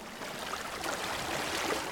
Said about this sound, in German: Du hörst das Meer, wie es in ruhigen Wellen hin und her schlägt.